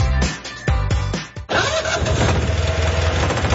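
A car engine cranks in several quick, loud, rhythmic bursts, then catches and rumbles into a steady idle; no voices are heard.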